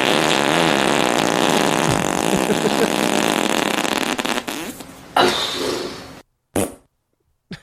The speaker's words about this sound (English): That's so stinky fart. Wow. That was a queef. Yeah. It was a front fart.